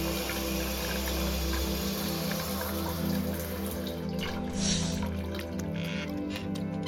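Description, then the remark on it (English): Hot shower water runs in a steady, continuous stream, a full hiss that holds at an even level throughout with a faint low hum underneath. “She lets the hot water pour over her chest ignoring the heat building between her legs.”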